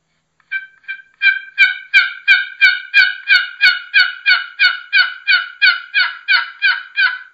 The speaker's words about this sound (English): And I got a box call right here. I like to just do a sequence like this. It's kind of soft with the box call, see if anything answers.